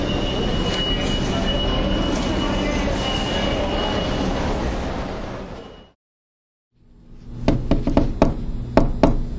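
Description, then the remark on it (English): A subway train arriving at ZPT station rumbles loudly and steadily for several seconds, cuts to a brief silence, then returns with a lower rumble punctuated by sharp, irregular metallic clacks and knocks. “I hate public transit.”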